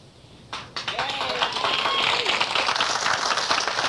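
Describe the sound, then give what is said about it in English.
Audience applause at a comedy routine bursts in abruptly after a brief quiet moment, an applause break following a positive closing statement: a dense wash of clapping that swells and holds steady, with cheering and whooping voices mixed in. “And although I have no business mentioning it in a comedy routine, I always finish it up with a statement so positive, it always gets an applause break.”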